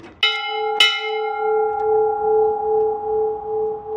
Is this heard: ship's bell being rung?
yes